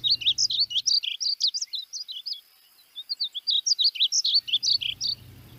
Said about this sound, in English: sing, and the song is very melodious. That's mm. also my favorite bird song.